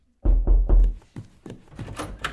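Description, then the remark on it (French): Three loud, heavy knocks on the door of Philippe Devilliers's home in quick succession, made by a police lieutenant, followed by several softer, sharper taps and rattles that fade out. No voices. “C'est les mêmes bruits de porte partout, c'est tout.”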